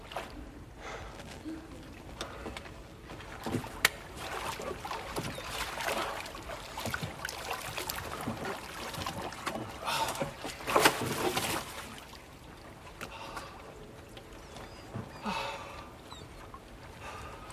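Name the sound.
rowboat moving on water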